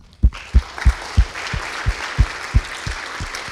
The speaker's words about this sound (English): So I'm going to introduce to you a few friends faculty. I would like to, well, welcome all of them with a big round of applause, so please join me in this.